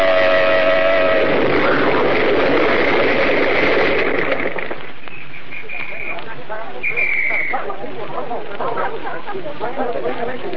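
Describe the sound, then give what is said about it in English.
A car horn blares in a steady, sustained tone for about four seconds as the car swings out of line in city traffic, then cuts to a harsh, crackling roar of the car exploding, with brief high tones sounding afterward. “They started to swing out of line and blew their horn, and then it happened. This awful explosion.”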